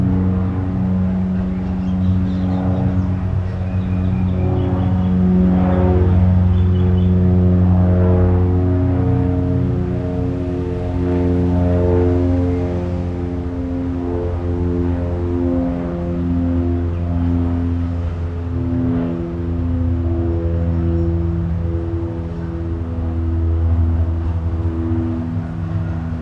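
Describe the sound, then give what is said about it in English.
A propeller plane drones overhead, a loud, steady engine hum with layered tones that slowly shift in pitch as it passes, with no voices. “Maybe it's like the fifth start I've had, but, oh gosh, of course it's a plane.”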